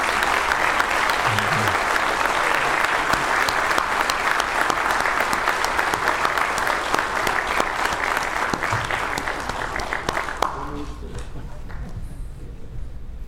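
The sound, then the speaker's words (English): A loud, sustained round of applause from many people as a degree is presented and its recipient hooded, dense crackling clapping that holds steady for about ten seconds before thinning out and fading near the end. “And if you would, by giving a loud round of applause, if you would,”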